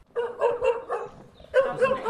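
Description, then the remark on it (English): A dog barks in two quick bursts of several fairly loud yaps, with a short pause between them and no talking. “The dog smells really bad.”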